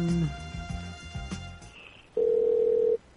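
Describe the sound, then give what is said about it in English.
A quick run of short electronic phone tones, as if a number is being dialed, followed by a steady, loud ringing tone that holds for under a second before cutting off. “Let's call the first one here.”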